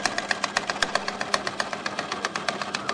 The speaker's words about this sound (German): Nähmaschine.